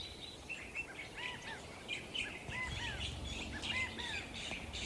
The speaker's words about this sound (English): There's about three California thrashers singing to each other. Lots of acorn woodpeckers, California quail, scrub jays.